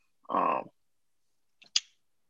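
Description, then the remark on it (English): A ballpoint pen, used as a nervous fidget device, clicks once with a quick double snap, after a short raspy, croak-like sound earlier in the otherwise quiet moment. “What's that clicking noise? No, this is my little pen, my little nervous pen.”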